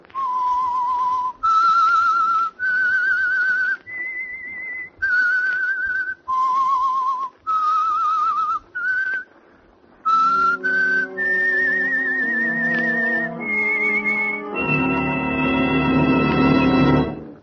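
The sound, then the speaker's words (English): A lone, clear whistled melody, the signature tune of the Signal Oil Program, The Whistler, with held, rising and falling notes, loud, then an orchestra swells in beneath it, building to a full sustained chord at the end. No one speaks. “That whistle is your signal for the Signal Oil Program, The Whistler.”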